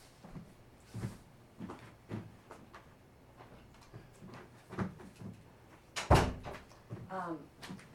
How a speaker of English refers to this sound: Maybe we, I should close the door here. In case the dogs, yeah. In case the dogs.